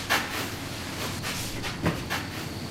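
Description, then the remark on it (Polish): Tractors and combines driving in the farm fields around a vineyard drone steadily, a continuous engine rumble and hiss broken by a few brief louder whooshing surges, with no voices. “A tutaj jakieś traktory jeżdżą, jakieś kombajny.”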